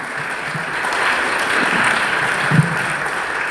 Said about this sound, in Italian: Un applauso al professor Pier Cesare Rivoltella.